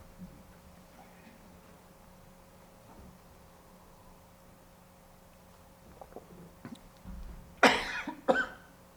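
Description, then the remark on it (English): Two sharp, loud coughs near the end, preceded by a few faint clicks and rustles over a quiet, steady background hum. “Sorry, the cough here.”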